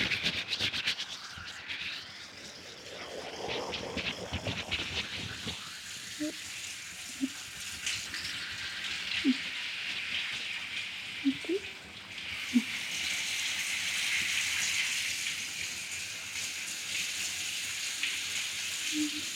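Water streams and splashes as shampoo is rinsed from hair, a steady hissing flow lasting the whole stretch, with a few small drips and sputters scattered through it.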